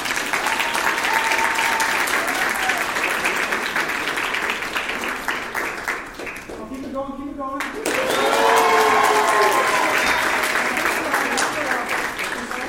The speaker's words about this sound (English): No, I like it when people applaud. You know why? Well, I need a hand.